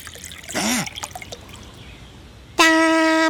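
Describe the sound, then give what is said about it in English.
A brief splashy pour of water, under a second long, then quiet, followed by a loud steady horn-like tone that continues to the end. “Some water.”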